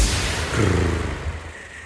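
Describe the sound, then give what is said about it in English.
A person makes a low, rumbling purr with their voice, imitating a cat. The steady, throaty vibration runs for about two seconds at moderate loudness, with no talking over it. “Were you purring just now?”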